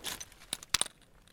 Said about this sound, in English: The first crack in the ice when it starts to melt, it's a very kind of high pitched little clink, and these rocks are quite high pitched. I liked the sound actually, so I stopped and so that I could hear it.